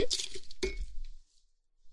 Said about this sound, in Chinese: 先喝圣水啊！来，女主人我，喝柠檬水，跟你干杯！